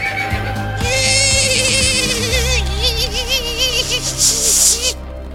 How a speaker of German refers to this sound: Pferd mit Verstopfung oder was war das? Nein, jetzt? Ein bremsendes Pferd war das.